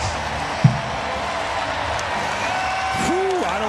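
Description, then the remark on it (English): A big baseball stadium crowd roars steadily after Eli White's 3-run home run to left field puts the Braves in front in a game between Atlanta and Cincinnati, with a brief thump early on and a few rising whistle-like tones near the end. “Does it sound like they might have dubbed in the crowd a little bit?”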